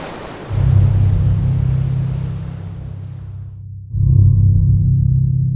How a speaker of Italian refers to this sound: Sono soli. Ad accompagnare questa romantica uscita c'è solo il vento e il rumore del mare.